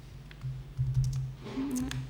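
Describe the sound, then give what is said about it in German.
Quick, uneven tapping of keys on a computer keyboard, moderately loud, with a low hum running underneath and no voices. “Ich bin immer mit dem Tippen nicht so gut.”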